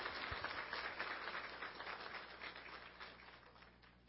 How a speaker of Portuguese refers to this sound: Pedimos o aplauso